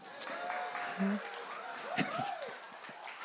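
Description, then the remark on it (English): A crowd claps steadily for a few seconds, a dense patter of applause with scattered voices, a few chuckles and short whoops rising through it. “Some of you clap like you actually know what that's like.”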